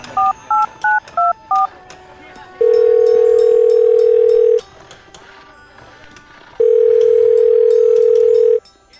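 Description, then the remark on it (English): A quick run of six keypad dialing beeps, then a telephone dial tone: a loud, steady low hum held for about two seconds, a short quiet gap, and a second identical long tone. “But just be really quiet, because he might be on the telephone to a little one.”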